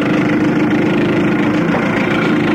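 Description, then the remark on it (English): An old boat motor is started and idles loudly in the early morning before heading out on the river, a steady low chugging drone with a rough, even throb and no voices. “getting behind that trusty old boat you've been using. Come on. Come on up. Come on, old Betsy. You can do it.”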